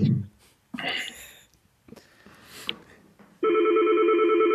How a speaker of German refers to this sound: Ups, hier klingelt ein Telefon. Entschuldigung. Macht nichts. Ich versuche mal aufzulegen. Klingelt weiter.